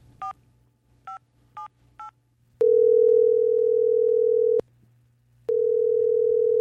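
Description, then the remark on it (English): Four quick keypad beeps from a phone being dialed to call Bill Burr, followed by a loud, steady telephone tone that cuts out briefly and then resumes, over a faint low hum with no one speaking. “Get Bill Burr on the phone again.”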